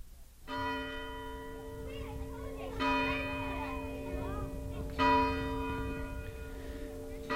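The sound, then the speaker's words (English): A meeting house church bell at Old Sturbridge Village, Massachusetts, rings on a Thanksgiving morning to summon villagers to services, in slow, spaced strikes, each tone hanging and humming long before the next, while faint voices of people and children murmur in the background. “The sound of the meeting house bell, summoning the villagers to services on a Thanksgiving morning more than 150 years ago.”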